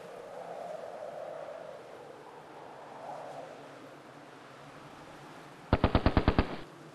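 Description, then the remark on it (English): A quick burst of about seven sharp gunshots in rapid succession rings out at night in Mogadishu near the end, loud against a low, steady background rumble with no talking. “You can hear gunshots in Mogadishu during the night.”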